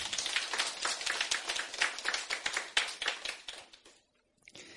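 A Christian audience applauds to thank a brother for his testimony, with dense, crackling clapping for about four seconds, then it fades out and a few scattered claps come back at the end. No one speaks.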